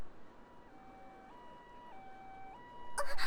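vehicle, ambulance siren approaching

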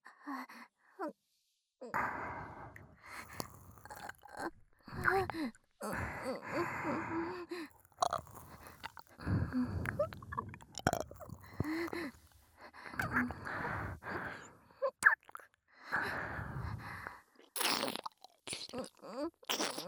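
human body sound, ear licking mouth sounds

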